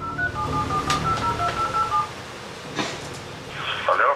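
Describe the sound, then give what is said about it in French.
A quick run of electronic telephone keypad tones, short beeps in an irregular rhythm, followed by a brief burst of higher warbling tone near the end, over a faint background hum, as journalists dial to reach a doctor who agreed to speak by phone. “Il refuse une interview face caméra, mais accepte de nous parler au téléphone.”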